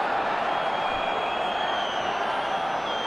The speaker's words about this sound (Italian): Cominciano a sentirsi dei malumori tra i tifosi della Juventus.